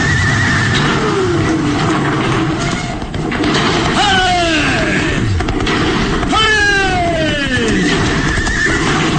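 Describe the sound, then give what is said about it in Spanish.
Horses pulling a carriage neigh loudly twice, each a descending, quavering whinny, as Calimán drives them across a collapsing bridge over an abyss; a continuous roar of the bridge crashing and rumbling down, with a low steady hum underneath. “El puente se derrumba en su totalidad justo en el momento en que Calimán impulsa a los caballos a llegar hasta el otro lado.”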